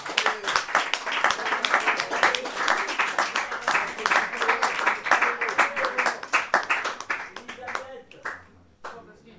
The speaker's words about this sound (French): Bah, ça fait rien, on l'applaudit quand même. Jusqu'à ce qu'elle arrive sur scène.